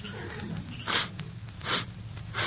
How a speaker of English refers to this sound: What are you sniffing for? I was just seeing if I smelt something.